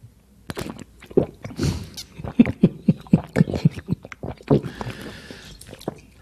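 Loud, wet chewing and biting, a rapid series of crunchy, smacking bites in an uneven rhythm, with some faint breathy noise toward the end and no talking.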